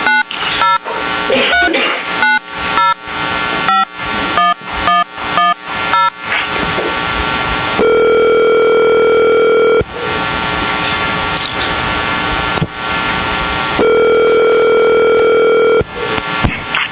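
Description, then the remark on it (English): A quick burst of short dialing beeps, then a telephone ringing tone on the line: two long, steady buzzing rings about four seconds apart, loud, with no voices, as an applicant is called during a public board meeting. “Applicant will be on the phone.”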